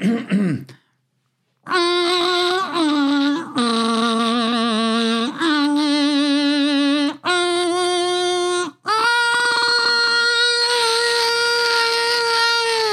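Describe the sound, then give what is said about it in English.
A loud, buzzy electric kazoo plays the national anthem in long, sustained notes with heavy wavering vibrato, moving through several phrases separated by brief breaks, with no talking. “I'm really good at the electric kazoo.”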